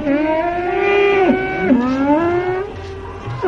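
Cows moo in long, drawn-out, wavering calls that dip and rise in pitch, loud, with a couple of bellows running together over about three seconds, crying out as the serpent Kaliya coils around Krishna.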